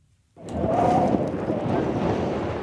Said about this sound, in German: Ein eisiger Wind pfeift um das Camp Lipa oder um das, was vom Camp übrig geblieben ist. Es schneit bei 4 Grad unter Null.